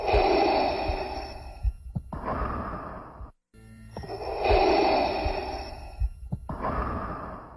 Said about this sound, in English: You hear Darth Vader breathing during the scene, and it's just like this... It seems so natural and plausible for the character.